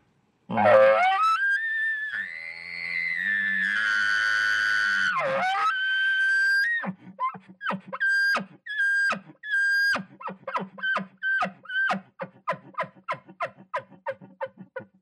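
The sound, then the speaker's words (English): A person demonstrates an elk call, imitating an angry bull elk bugle: a loud, raspy, screaming whistle held for several seconds, then a long run of rhythmic grunting chuckles that quicken toward the end, unaccompanied. “they call screaming, you know, and lip bawling, where the elk kind of curls their lip back and they get some really angry sounds.”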